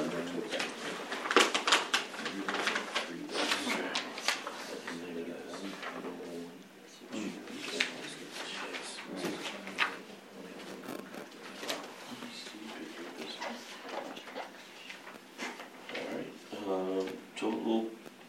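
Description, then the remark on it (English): Rustling and tearing of paper as a sealed bid envelope for split office doors is opened, a run of crisp, uneven crackles lasting several seconds, with some murmured voices near the end. “We'll open it and just see what it says.”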